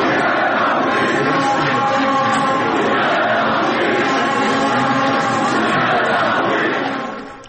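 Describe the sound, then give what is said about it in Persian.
A huge stadium crowd chants loudly in unison, a dense, continuous roar of many voices that holds steady for several seconds before fading out, as fans at Azadi Stadium chant for Voria Ghafouri during Esteghlal's 3-1 league win over Naft Masjed Soleyman. “بله، تشویق تماشاگران بازی استقلال و نفت رو شنیدیم نفته.”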